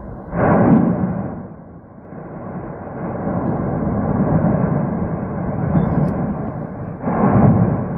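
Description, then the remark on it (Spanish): A deep, continuous roar of an erupting volcano at night rumbles steadily for the whole stretch as lava pours out, swelling into louder, rougher surges at the start and again near the end, with no voices over it. “Yo no sé si podéis escuchar el rugido, además, que es increíble.”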